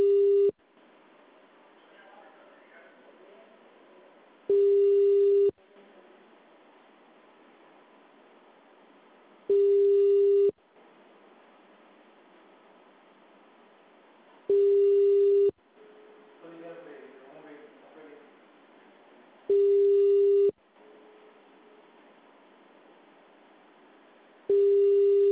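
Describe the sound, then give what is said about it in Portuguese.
A telephone ringback tone repeats over a phone line, one-second beeps about every five seconds, five rings with no answer, over faint background murmur and line hiss. “ninguém atende.”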